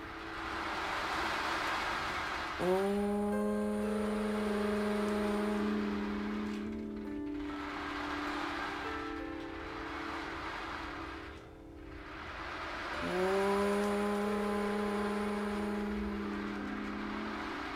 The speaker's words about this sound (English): Allow yourself to drift as the ocean hums inside you, and it is awakening the true you. As you hear the deep humming of the ocean with each hum, allow your heart to expand.